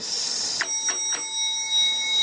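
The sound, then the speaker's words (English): Sleigh bells jingle in three quick shakes, each a bright metallic burst, with a high ringing shimmer lingering after them. No voices are present. “Is that sleigh bells I hear?”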